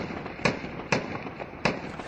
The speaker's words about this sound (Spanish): Es el sonido del avance de las tropas hacia Mosul.